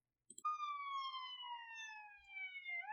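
A loud, steady siren sound effect wails alone, holding a long slowly falling tone with bright harmonics after a couple of quick clicks at the start.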